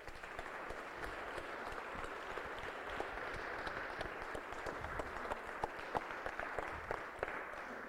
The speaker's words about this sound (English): Well, let's hear a clap on that one.